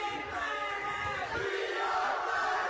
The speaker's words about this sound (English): And got to turn down the crowd mic. Some people decided they needed to be right by it. Need to bring the energy.